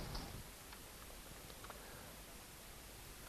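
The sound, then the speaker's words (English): A clock ticks faintly and sparsely against a steady hiss of background noise, the soft ticks spaced irregularly and barely rising above the static. No one speaks. “For example, this clock.”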